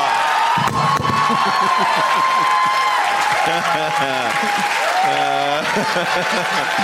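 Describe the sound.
A studio audience applauds steadily for several seconds after a correct answer in a movie quiz game, a dense wash of clapping with bursts of cheering and raised voices rising above it near the end.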